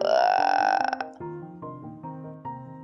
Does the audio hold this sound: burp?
yes